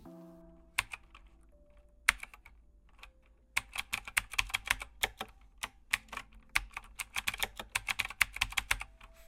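Rapid keystrokes clack on a computer keyboard, starting with a few scattered taps and settling into a steady, uneven run of typing. Fairly crisp, with no voices.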